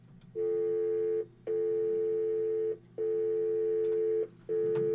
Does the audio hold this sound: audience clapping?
no